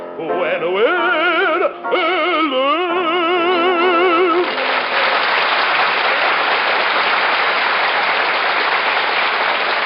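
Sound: audience applause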